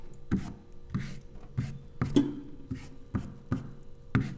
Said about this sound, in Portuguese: Tô terminando de lavar uma louça aqui. Um minutinho. Inclusive, a parte mais divertida é lavar a louça é passar o rodinho.